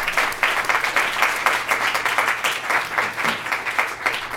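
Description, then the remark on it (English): A crowd applauds steadily, dense overlapping claps at fairly loud volume for several seconds with no voices, a round of applause for the speakers at a Cornell International Affairs Review event. “First, can we give another round of applause for our speakers?”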